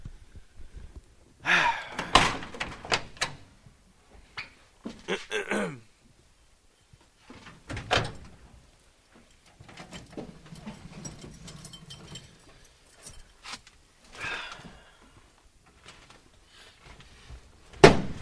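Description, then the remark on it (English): The passenger and driver's side car doors creak open and thud shut several times, with shuffling movement, a squeaky hinge needing grease and brief breaths between the bangs, ending in one loud slam. “Why don't you get in the passenger side? I'll get in the driver's side.”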